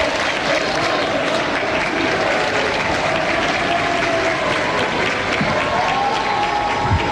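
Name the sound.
crowd applauding and cheering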